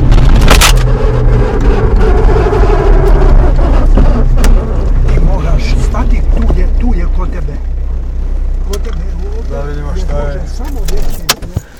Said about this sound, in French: L'amortisseur arrière gauche a carrément transpercé l'habitacle de la voiture.